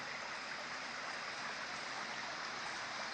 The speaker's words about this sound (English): Actually, it's a rushing river of acid, boiling and dissolving the flesh off of bones, caustic. No, it really is a mountain stream of pure, fresh, refreshing, necessary water.